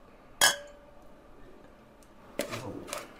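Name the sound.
glasses clinking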